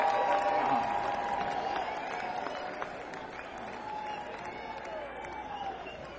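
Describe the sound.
A crowd applauds steadily for several seconds, dense clapping mixed with cheering and indistinct voices, holding fairly even in loudness before easing slightly toward the end.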